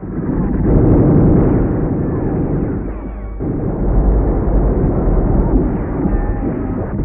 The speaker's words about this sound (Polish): 12 października, 6 rano. Pierwszy pułk artylerii lekkiej otwiera ogień ze wszystkich swoich baterii. Po 15 minutach kanonady batalion rusza.